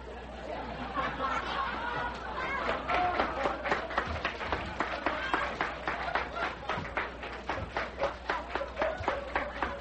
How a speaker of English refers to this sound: Well, now, wait a minute. Are you applauding Chuck? Or the fantastic boo-boo I made?